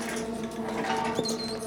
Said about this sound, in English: Close the door. Close it out. There's rodents running around.